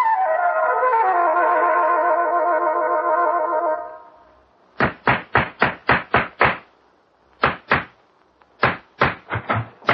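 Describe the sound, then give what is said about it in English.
A sustained, wavering musical tone fades out, then sharp hammer blows on strips of wood being put together in a cellar ring out in quick uneven bursts, about seven rapid strikes, a short pause, then more clustered knocks. “What's all that hammering about?”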